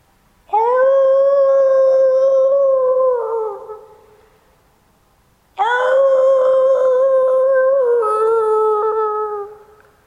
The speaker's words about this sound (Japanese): 遠くの方で狼が吠えています。